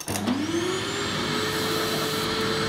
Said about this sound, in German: Also nicht so leicht quiekig wie europäische Staubsauger zum Beispiel.